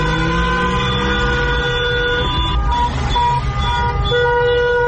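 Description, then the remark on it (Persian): Many car horns blare at once in a loud, continuous chorus, overlapping sustained tones layered over a low traffic rumble with no pauses throughout, from people protesting while sitting in their cars in Maaliabad, Shiraz, on 17 Mehr. “صدای مردم شیراز رو بشنویم که در ماشین نشستن و اعتراض میکنن.”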